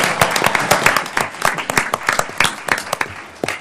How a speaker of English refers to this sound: This is the only time you get a clap, so clap for them.